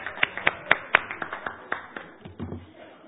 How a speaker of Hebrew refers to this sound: ובוודאי שהתפקיד הזה ימנף את העשייה שלך ויתן לך כלים רבים יותר לפעול, לעשות ולהצליח, וגם כפיים מגיע לו על הדברים הללו.